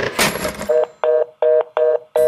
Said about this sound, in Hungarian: Na, ez nem egy hoki meccs, ez egy kürtje, támadás. Ez a katonazene igazából nem zene, és onnan ered, hogy egy csatában igen nagy az ordítozás.